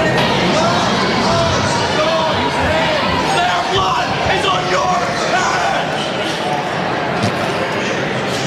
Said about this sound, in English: These protesters, they're screaming at the top of their lungs things like murderers, vote them out, and blood on your hands.